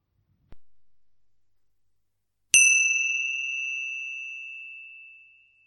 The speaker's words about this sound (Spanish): Así que al sonido de las campanillas vas a comenzar a realizar un pequeño escáner corporal a tu ritmo.